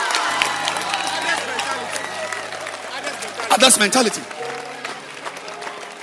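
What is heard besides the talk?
audience clapping hands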